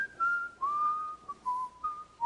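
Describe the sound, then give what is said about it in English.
A man whistles a slow hymn tune alone while standing in line at a hardware store in Romania, a clear steady melody of several sustained notes stepping up and down with short breaths between phrases. “And some of you may have heard this, but anyway, he said he was standing and he's just whistling. He's whistling a hymn.”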